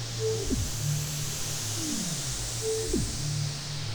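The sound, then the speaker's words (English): A steady, unbroken hiss of TV static white noise fills the whole stretch at an even level, with faint low hums and gliding tones drifting underneath. No one speaks. “Now, just imagine back in the day when TVs would just go and there's total static.”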